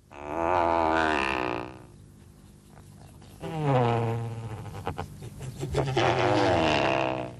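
Great bustard, one of the world's largest flying birds, calls: three drawn-out bursts of deep, rasping, grunt-like vocalizations, loud and harmonically rich, separated by short lulls, with no talking.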